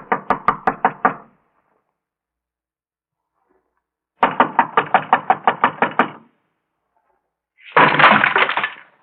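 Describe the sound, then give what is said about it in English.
Loud, forceful police knocking on a door comes in three bursts separated by silence: a quick volley of raps, a longer run of heavy blows, then a rapid pounding flurry. “Come on, open the door. This is the police.”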